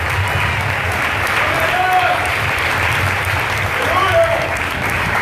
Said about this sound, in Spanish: Si usted aplaude, apláudalo para él.